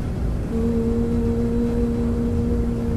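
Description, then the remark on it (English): A clothes dryer in the laundry room of an apartment building runs with a steady, low droning hum. A sustained tonal note sets in after about half a second over constant rumbling noise, and the level never changes. No one speaks. “So I'm in my laundry room in my apartment building, and I'm going to share with you the sound of the dryer.”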